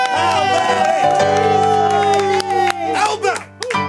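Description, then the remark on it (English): A studio audience cheers and whoops loudly as the show's host is welcomed, with scattered clapping and shouted voices over a steady musical backing. The crowd noise stays dense and energetic throughout. “How about some applause and some rocket enthusiasm right now?”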